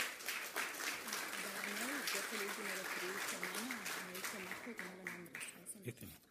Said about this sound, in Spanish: Adelante con un aplauso.